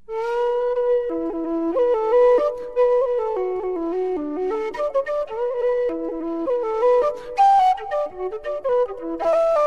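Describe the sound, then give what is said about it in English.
A slow, mournful Irish air played on a low whistle by an Irish piper, with sustained breathy notes gliding gently up and down a lilting melody, steady and unaccompanied, with no voices. “This is a slow Irish air that … likes to play on a low whistle.”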